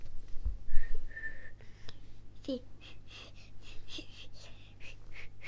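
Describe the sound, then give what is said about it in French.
A child tries to whistle: a short, thin tone near the start, then a quick run of about a dozen breathy, pitchless puffs of air, fairly quiet. “Ouais, il n'y a pas de son qui sort.”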